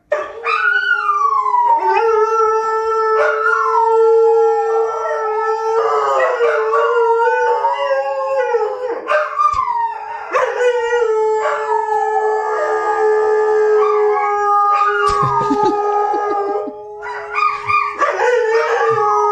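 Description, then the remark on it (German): Three dogs, one female and two male, originally from Spain, howl together as a sung serenade in long, overlapping, wavering tones that rise and fall like a chorus, loud, continuing almost without pause with no talking. “Ich lieb diesen einen Hund.”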